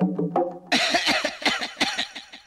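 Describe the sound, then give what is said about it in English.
A short voiced sound gives way to a rapid run of harsh coughs, about eight or nine bursts in quick rhythm, loud and with no speech. “What a lot of coughing.”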